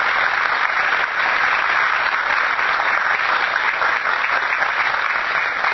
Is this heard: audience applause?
yes